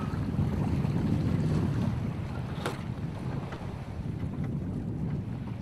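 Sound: on board a boat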